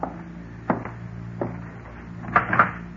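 A door being opened, with several short wooden clunks and a quick rattling click-clack of the latch toward the end, all heard over a steady low hum with no voices.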